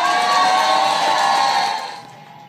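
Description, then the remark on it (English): A crowd at a Dolton Board of Trustees meeting bursts into loud, sustained cheering and applause as four trustees vote to appoint former Chicago mayor Lori Lightfoot as special investigator into Mayor Tiffany Henyard, a dense wash of clapping and shouts that holds steady, then fades. “Huge applause from the crowd when the four present trustees voted to appoint the former Chicago mayor and former federal prosecutor.”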